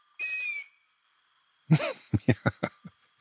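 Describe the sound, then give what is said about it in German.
A young owl, a nestling or branching fledgling, gives a shrill, high-pitched scream once, clear, followed after a pause by a rapid series of short, harsher calling notes that fade away. “Die Jungvögel hört man tatsächlich, das ist dann eher der Vokal I. Wenn man die so im Mai, Juni hört, dann ist das so ein ganz hoher Schrei.”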